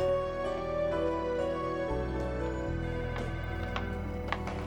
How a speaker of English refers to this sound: The phones are going crazy already.